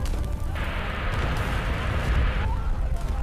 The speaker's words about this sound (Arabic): النار بيحصل ده، النار نازله من السماء.